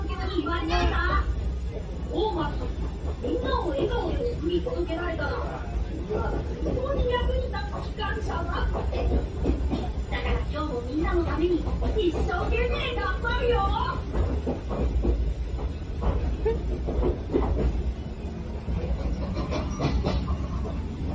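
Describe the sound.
A Thomas steam train rolls steadily along the rails on a sunny day, with a continuous low rumble, faint rhythmic clatter and steam sounds, while voices talk over the running noise throughout.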